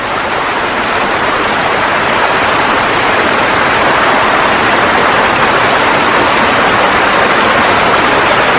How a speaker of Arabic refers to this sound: أسوأ هذه العواصف والمدعو بولين تسبب في هبط 16 إنشا من الأمطار على التلال الواقعة خلف أكابولكو خلال 24 ساعة فقط. تدفقت طوفانات محلية عبر البلدة في اتجاه البحر